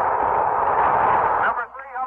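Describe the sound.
A loud, sustained roar of crowd cheering breaks out as a report comes in from the carrier Randolph during a Mercury Control broadcast of an orbital flight, filling the first second and a half, then dropping away abruptly, leaving fainter voices and murmuring.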